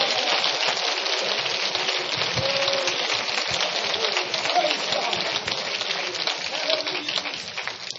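An audience at a church service claps their hands together along with the preacher in a dense, continuous patter, many hands striking at once with a steady, fairly loud intensity that holds for the whole stretch without any voices.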